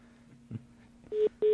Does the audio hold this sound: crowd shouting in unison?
no